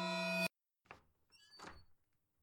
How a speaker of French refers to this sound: Ta honte se mélange à l'horreur quand tu entends la porte de ta chambre s'ouvrir doucement. Tu n'as aucune idée qu'une démone vient de pénétrer dans ton antre.